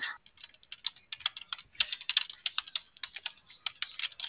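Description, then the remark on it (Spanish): Rapid, uneven keystrokes clatter on a computer keyboard for several seconds, fairly quiet, with brief pauses between bursts of clicks and no voices. “Nada más denme un segundo para llegar al teclado.”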